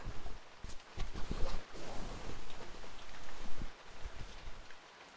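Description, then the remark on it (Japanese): Steady rain falls, a dense wash of hiss broken by many scattered drips and taps hitting a surface, with no voices, only the rain. “この音は雨かな。”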